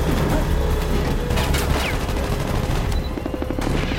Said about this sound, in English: The helicopter banks for another pass as Logan streaks towards the next Hummer. He leaps off the bike onto the roof of the vehicle, turning the machine gun on the helicopter.